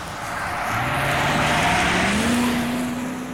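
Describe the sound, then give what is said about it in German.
A car engine hums steadily, its pitch rising as the vehicle accelerates while driving home, with broad road and wind noise throughout and no voices. “Und als ich aufwachte, saß ich im Auto und wir fuhren schon wieder nach Hause.”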